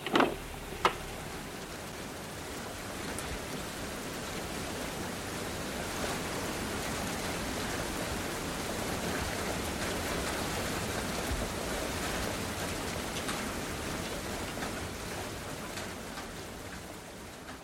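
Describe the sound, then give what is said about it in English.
Steady rain falls outdoors, a dense even hiss of drops pattering on surfaces, with a couple of sharp closer taps near the start and no voices. “So it is with the blind person coming out of his house and into the rain.”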